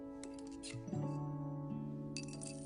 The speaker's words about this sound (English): Agnes holds up a chubby piggy bank with hearts on it. Gru takes it and removes the cork from its belly. He shakes a few coins into his palm.